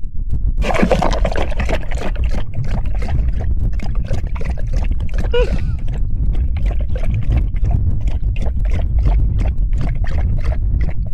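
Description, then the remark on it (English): A steady, loud, wind-like rushing roar, heavy in the low end, with rapid crackling flutters and gusty surges running through it for the whole stretch. It is the first audio ever recorded on Mars, sent back by NASA. No one speaks. “So, as you can see, it sounds like wind.”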